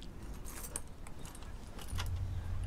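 Keys jangle and clink in short bright bursts as they work the lock of a safe, over a low steady rumble that thickens toward the end.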